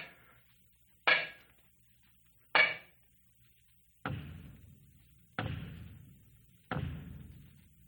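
knocking on a wall

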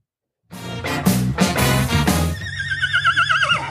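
horse whinny

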